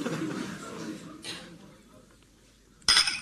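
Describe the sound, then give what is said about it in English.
Glass clinks sharply a couple of times as a bottle is handled and opened by a man whose hand is shaking, for a nightcap, with a low murmur in the background at first. “his hand's shaking so much he can hardly get the top off the bottle.”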